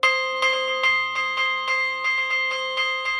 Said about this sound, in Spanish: ¿Esto es lo que se dice repicar? Esto es lo que se dice repicar, vale. Sí. Lo que se llama repicar, digo. Cogemos el badajo y percutimos la campana con la mano. Qué bueno. Esto es impresionante. Me encanta.